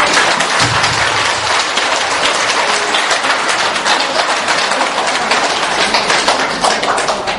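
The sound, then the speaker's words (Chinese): Sustained applause from a church audience after a prayer, clapping offered to God: dense, steady clapping from many hands lasting several seconds at a strong, even level, with no voices standing out. “好，下面拍手让给神。”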